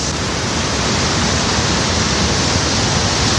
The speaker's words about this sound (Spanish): En este vídeo que escuchas de hace 11 años se ve, por ejemplo, cómo las olas llegan a cortar el tráfico, inundan los locales y entran por los accesos del parking subterráneo. No es una crecida de un río, es el océano Atlántico